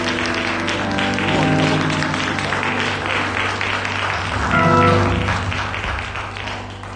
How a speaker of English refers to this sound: Come on and put your hands together and welcome.